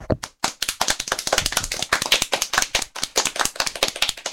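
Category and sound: crowd, studio audience applause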